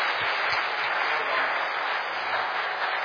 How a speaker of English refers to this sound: Do you know what? Let's give them another round of applause there.